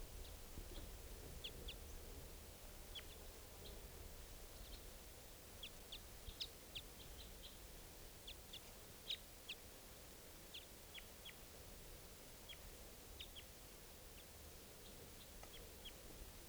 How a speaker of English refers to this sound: Caught one of the birds. The other wild bird is still here calling.